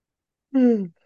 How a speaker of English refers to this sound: And as always, when I start yawning, it's not fatigue. It's just the energy starting to move through. And yawning is one way it passes through.